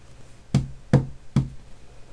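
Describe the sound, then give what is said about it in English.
Three firm knocks on the outer doors of a study, evenly spaced about half a second apart, each a sharp thud with a dull low body, standing out clearly against a quiet background with no voices. “"Lord Conker," Abraxas knocked on the outer doors.”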